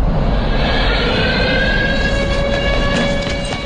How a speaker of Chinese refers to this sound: 记者乘坐的车辆刚驶入东部战区空军地岛某旅的营区，一阵尖锐的警报声突然划破长空，响彻整片营区。